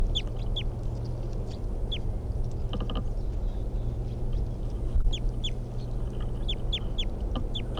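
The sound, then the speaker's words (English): A wild bird in a tree calls in short, high, downward-slurred chirps, repeated in loose clusters throughout, over a steady low rumble of background noise. “That wild bird, I think, is still in the tree, but it's very quiet, and the decoys are also very quiet.”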